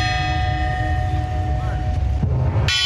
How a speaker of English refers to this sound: The bells are tolling again today at Notre Dame.